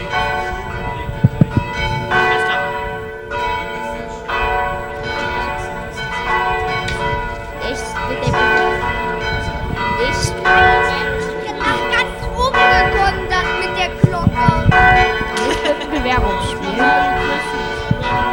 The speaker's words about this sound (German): ist alles okay mit der Glocke?